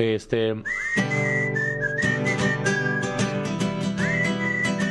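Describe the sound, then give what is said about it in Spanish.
Someone whistles the melody of a Spanish-language urban rock song over music, a clear sustained melodic line with short gliding notes running steadily through the five seconds alongside instrumental backing. “La tercera que chiflaron.”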